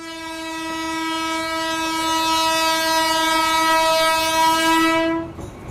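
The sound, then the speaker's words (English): A passenger train horn blares in one long, steady blast for about five seconds, loud, then cuts off abruptly over the rumble of the train running along the tracks. The train carries tourists and locals between rural villages. “Today, international tourists and locals find themselves sharing a bench on the train as the track is still used as a mode of transport between rural villages.”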